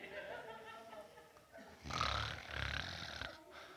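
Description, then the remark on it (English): A male preacher's voice imitates a loud snore during a sermon, with a drawn-out rumbling, nasal snort starting about halfway through after a brief stretch of quieter background sound. “And we have heard people snoring in the middle of service.”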